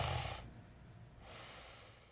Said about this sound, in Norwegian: Det lukter sterkt av svette fra de andre mennene, men snart sovner han likevel, til lyden av høylytt snorking.